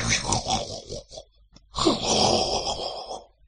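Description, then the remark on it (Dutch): Two long, loud snores from a woman in the night, each a harsh rasping breath with a rumbling edge, separated by a short pause. Prominent, with no talking. “Ik kan het slapen wel vergeten met dat gesnurk van jou.”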